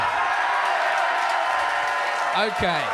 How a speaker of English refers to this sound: Okay. We got a lot to get through, so please hold your applause.